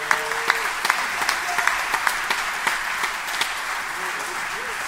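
Steady audience applause for the group's first alto, who composed the first piece they performed. A dense wash of many hands clapping, with sharp individual claps popping out, sustained for the whole stretch.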